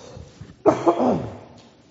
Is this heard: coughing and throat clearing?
yes